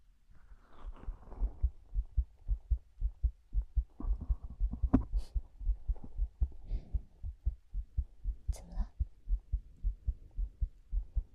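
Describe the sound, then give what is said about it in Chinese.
A steady heartbeat, the speaker's own, thumps low, its soft pulses repeating in an even, fairly quick rhythm, with faint rustling and brief higher noises drifting over it. “听着我的心跳声吧。”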